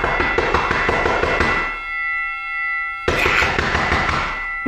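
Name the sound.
doorbell ringing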